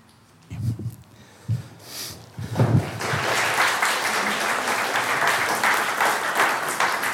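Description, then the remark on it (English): A crowd breaks into sustained applause after a few scattered sounds, the clapping swelling quickly and holding steady and fairly loud as a dense, even patter. “You never applaud me.”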